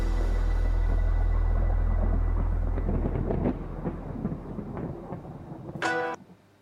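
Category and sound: nature, thunder rumbling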